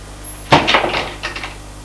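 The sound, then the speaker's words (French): A door in a Louis XV-style salon opens: a sudden clunk of the latch followed by a brief rattling scrape as it swings, then a softer knock settling into quiet room tone. “Une autre porte s'est ouverte”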